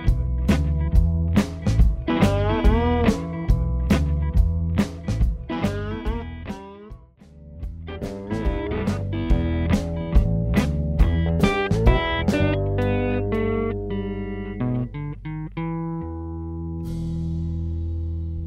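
A blues tune with busy, sharply plucked guitar lines over a steady low bass, fairly loud throughout, settling into a sustained chord that rings out at the end.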